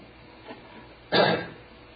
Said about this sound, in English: Noah. In Hebrew, it's just like Noah. It's like you're clearing your throat.